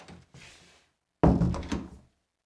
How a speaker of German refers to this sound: Jetzt ist auch Nils aus dem Wohnzimmer raus und hat die Tür zugemacht.